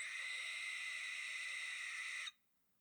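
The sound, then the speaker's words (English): A barn owl lets out one long, harsh, hissing screech that holds steady for about two seconds, then cuts off abruptly into silence. The call is loud, with no voices. “There's a YouTube video that's just called Barn Owl or Feather Banshee.”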